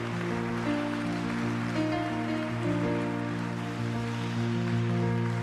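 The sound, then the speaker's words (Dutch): Steady applause from a church crowd welcoming the preacher, a dense crackle of clapping that continues throughout, heard together with sustained chords of music that shift a couple of times. “Applaus, de prediker uitnodigen,”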